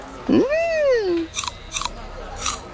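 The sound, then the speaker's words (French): A short gliding vocal hum, then three crisp, crunchy bites into a green apple bought from an apple seller, at uneven intervals, fairly loud, with no talking. “Tiens, Toudou, une pomme verte. Tu veux croquer dedans ?”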